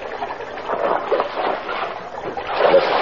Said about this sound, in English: Never mind. Drop him back in the water. Hey. Drop him back.